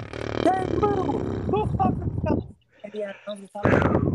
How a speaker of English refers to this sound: Oh, this wow. You got like the biggest gigantic fart. That would feel so good on my butthole if I could fart for that long.